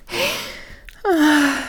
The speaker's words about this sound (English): Look at that. If I wasn't sweating and panting before.